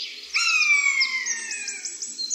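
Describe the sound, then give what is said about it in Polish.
A pair of common buzzards, alarmed at their nest, give long, drawn-out mewing calls that overlap: the female's higher and sustained, the male's lower and shorter, followed by a quick series of repeated chips; fairly loud, no talking. “Jego głos to przeciągłe, miałczące okrzyki. Tutaj słyszymy zaniepokojoną przy gnieździe parę ptaków.”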